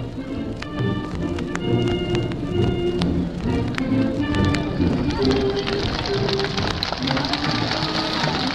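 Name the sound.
crowd cheering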